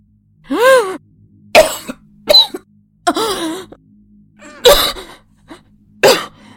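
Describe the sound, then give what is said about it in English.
A run of harsh coughs broken up by strained, rasping gasps for air, loud and irregular, with short silent pauses between the bursts and no talking. “Coughing, gasping, bluttering.”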